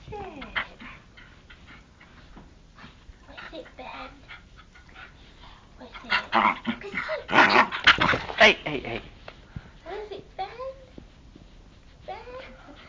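A dog slurps and licks right up against the microphone, wet smacking bursts that grow loud and dense in the middle, then trail off into softer, scattered licks and faint whines.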